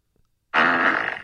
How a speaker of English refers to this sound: Okay, we're watching her. She says this is on Zoom. She farted in class. Oh, she farted in class?